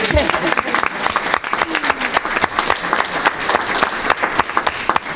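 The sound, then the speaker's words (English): A crowd applauds steadily for several seconds at a school board meeting, honoring a school bus driver finishing her 40th year in the Norton City School System; a dense, continuous patter of many hands clapping at once, fairly loud, with a few faint voices mixed in. “You can clap.”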